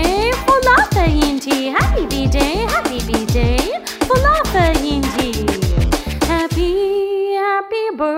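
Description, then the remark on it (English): Rhythmic, pitched dog barks and yips repeat over a bouncy musical beat with steady low thumps in a birthday song, fairly loud, ending in a sustained tone. “My dog says, woof woof to you, Pola Fainti.”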